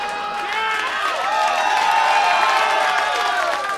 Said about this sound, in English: Clap it up.